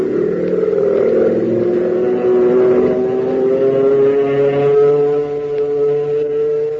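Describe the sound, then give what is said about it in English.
An airplane engine drones loudly and steadily, a deep rumbling roar whose pitch slowly rises as the plane CX-4, flown by Hop Harrigan, comes in to land, with no voices over it. “Boy, oh boy, listen to the roar of that motor as Hop brings his ship in for a landing.”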